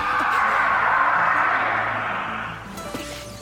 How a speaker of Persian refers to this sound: این فریاد یه تایتانه. صدا از روبرومون میاد.